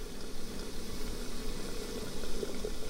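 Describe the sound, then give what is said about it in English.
A steady hiss of water simmering in a kettle on a sunken hearth in a tea room, with faint bubbling and soft gurgles running continuously underneath; no voices, just the constant warm rush of steam. “I sit next to a sunken hearth, where a kettle is already steaming.”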